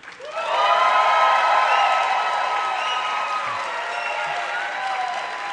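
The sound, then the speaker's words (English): A crowd bursts into sustained applause with whoops and cheers layered on top, starting abruptly and holding at a loud, steady level for several seconds without tapering off. A live audience votes by applause on which film, Unforgiven or Reservoir Dogs, most deserves a Sacred Cow discussion on Film Spotting. “Applaud for the one you think is most worthy of a Sacred Cow discussion on Film Spotting.”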